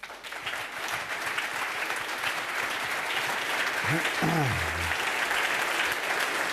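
A crowd claps steadily and loudly throughout, a dense wash of applause; midway a brief tonal sweep, like a whistle or feedback, rises and falls under the clapping.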